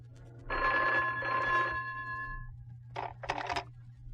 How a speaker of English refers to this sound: On the way back to the apartment, Ed had to call into his office. Just as we got in the door, the phone rang.